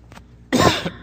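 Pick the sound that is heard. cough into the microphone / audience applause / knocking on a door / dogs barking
cough into the microphone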